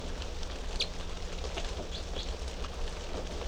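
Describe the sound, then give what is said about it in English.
A few short, high chirps from three small birds in cell number 3 of an aviary come at scattered moments over a steady background hiss, fairly faint, with no one talking. “And these are the three type 3 birds in cell number 3.”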